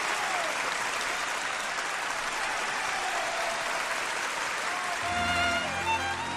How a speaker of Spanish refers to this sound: Año 1972, Hollywood, Charles Chaplin. ¿Esos aplausos eran para él? Sí, esos aplausos son para uno de los mayores genios del arte en general, de uno de los mayores genios de la historia, que es Charlie Chaplin.